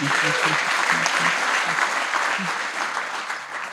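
A crowd applauds steadily, a dense wash of many hands clapping at an even level. Brief low voices murmur underneath early on before the clapping gradually tapers slightly.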